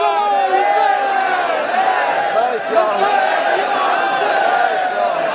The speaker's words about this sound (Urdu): یہ جو ہمارے لبیک یا حسین کے نعرے ہیں, یہ نعرے اس طرح سے نہیں ہیں. منظم قوت کے ساتھ اور پوری قوم کی آواز بن کر پورے کوئٹہ کو ہلا دے اور بتا دے کہ شیعہ لبیک کہہ رہے ہیں, تو اس کا مطلب یہ ہے کہ اب ان کے قوت کے مقابلے میں کوئی جھیل نہیں سکتا.